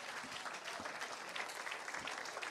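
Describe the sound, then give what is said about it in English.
A steady round of applause from a crowd, dense clapping that holds at an even level for the whole stretch with no voices breaking through. “A round of applause.”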